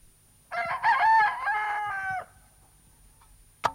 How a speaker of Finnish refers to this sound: Se kukon laulu oli kuin alkumerkki.